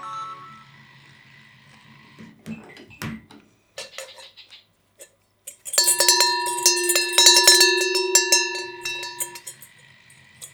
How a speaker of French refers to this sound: clochette normande. Pour les vaches.